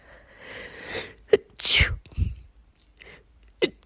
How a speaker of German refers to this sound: jetzt, wo ich die Geschichte erzähle, merkst du auch an meiner Stimme, vorher war sie sehr klar und jetzt muss ich so oft niesen.